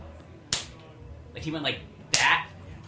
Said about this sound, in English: He was punching his hand. Yeah, he was punching his hand